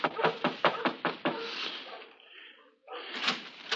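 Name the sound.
knocking on a door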